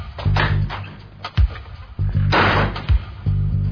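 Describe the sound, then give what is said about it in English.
A door slams shut with heavy thuds, several bangs coming at uneven intervals amid rumbling, noisy commotion. “Why is that door closed?”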